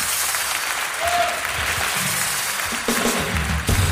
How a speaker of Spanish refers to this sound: Un aplauso para que ahí agarre valor.